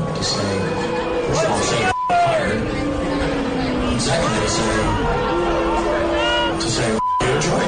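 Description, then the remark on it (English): A large concert audience in Detroit boos and hisses loudly at a speaker as he talks on stage, with drawn-out low jeers over a dense, continuous roar of voices, broken by two brief cut-outs; taped by someone in the audience. “… trying to talk about whatever he's talking about on stage and people booing and hissing.”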